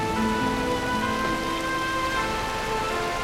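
Steady rain patters continuously, a dense hiss of drops close by, with faint sustained musical tones humming underneath and no voices.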